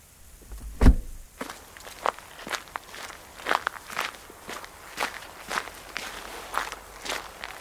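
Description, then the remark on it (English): Footsteps walking toward a church door: a steady series of about ten crisp, moderately loud steps, opening with one heavier thud, then an even pace with faint rustling between. “Let me see if the door is open.”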